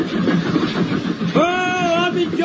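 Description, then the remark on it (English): A train rumbles steadily along the rails, fairly loud, then a sustained whistle rises over the noise partway through and holds to the end. “Without that, they can't stop the train.”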